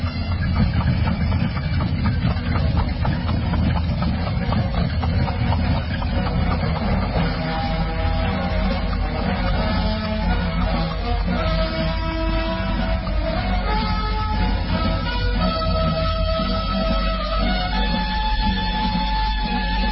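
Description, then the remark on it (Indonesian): A train rolls past with a continuous heavy rumble, a deep low drone and shifting mechanical whines layered on top, staying loud and steady for the whole stretch with no one speaking. “Iya, benar. Ada suara kereta lewat.”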